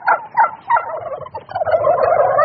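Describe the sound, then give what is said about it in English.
A flock of turkeys, about 1,000 white birds on a green rolling pasture on a farm in central Missouri, United States, gobble in rapid, burbling bursts that swell into a continuous overlapping chorus, loud, as if the whole flock is calling at once with no voices present. “If you're a turkey on a farm in the United States, your days are numbered.”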